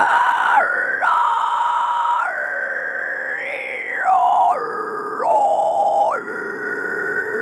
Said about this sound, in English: It's almost as if the powers that be, whoever, whatever created us, started an operation for vocal cords a little higher up and didn't finish them. So it's actually like higher up, it sounds like shrieking. Sounds like an animal.